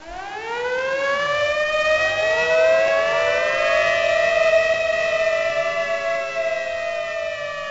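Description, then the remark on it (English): An air raid siren wails steadily in Hiroshima on the cloudless day of 6 August 1945, warning of an enemy plane. Its rising and falling harmonic tone is loud and sustained, with a faint low rumble beneath and no voices. “The sirens warned of the presence of an enemy plane, which after flying twice over the city, disappeared.”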